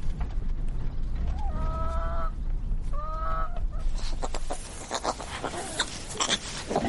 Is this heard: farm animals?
yes